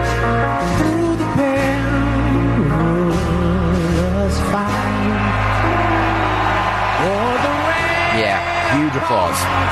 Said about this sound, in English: On the other side, Trump, as soon as they showed him on the Jumbotron, was cheered. Huge applause.